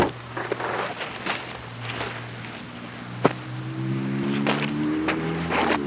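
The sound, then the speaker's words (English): Car windows are rolled down a little on arriving at an aunt's house, a motorized whine climbing in pitch partway through, set against a steady engine rumble and cabin road noise with a sharp click just before. “I'm gonna roll down. We want to crack the windows a little bit, huh?”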